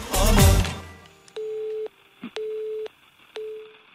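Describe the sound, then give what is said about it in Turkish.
A telephone line tone sounds three times, steady, evenly spaced beeps about a second apart, each lasting half a second, coming right after a short burst of louder sound at the start. “Hadi buyurun, telefon çalıyor.”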